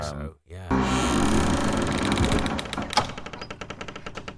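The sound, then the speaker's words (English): A heavy door creaks open with a long, strained groaning whine, loud and tonal, breaking into a rapid run of ratcheting clicks that gradually slow toward the end. “It's probably a heavy door, isn't it? Probably like very heavy sound and creaky.”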